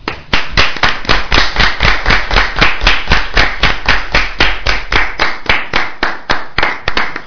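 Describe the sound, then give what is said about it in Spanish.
An audience applauds a group of musicians loudly for several seconds, the many hands falling into a steady, fast rhythmic clap with no voices heard. “Otra vez un aplauso.”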